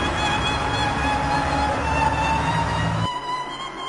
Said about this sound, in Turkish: Daha sonra bir otobüs durağa yaklaşıyor.